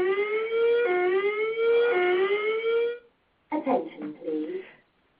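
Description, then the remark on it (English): A loud electronic building alarm blares a harmonic tone that steps up and down in pitch for about three seconds, then cuts off before a voice begins an announcement. “We are investigating an alarm condition. It may be necessary to evacuate the building.”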